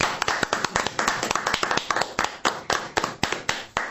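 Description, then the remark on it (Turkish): A small group claps steadily for a few seconds to applaud the listeners, the sharp hand claps distinct, falling into an uneven rhythm rather than a dense roar of applause. “Şu anda bizi dinleyen, kendi oyununu oynamakta olan dinleyicilerimize bir alkış gönderelim.”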